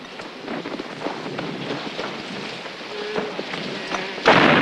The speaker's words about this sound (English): He tenses briefly at the shelling and thunder.